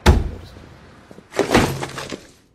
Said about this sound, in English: Anna marches intently through the office past a swarm of busy workers. She pushes open Julius's door.